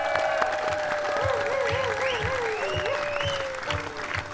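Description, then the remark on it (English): A crowd applauds steadily at Merlefest 2017 on the Hillside Stage, marking the 20th anniversary of the Krugers at Merlefest: a dense wash of clapping with some whistles and cheers rising over it, continuous for several seconds at a fairly loud, even level. “Put your hands together and for the 20th year, the 20th anniversary of the Krugers at Merlefest.”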